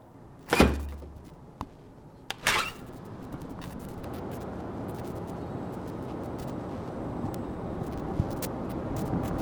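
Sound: door being opened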